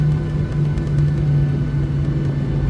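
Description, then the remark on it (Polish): Steady, loud rumble of an airplane rolling fast along a runway after landing at nearly 60 km/h, with a constant low engine drone and a steady hum running unbroken from start to finish, with no voices. “Bo tak naprawdę, jak widzimy, samolot poruszy się z naprawdę dużą prędkością.”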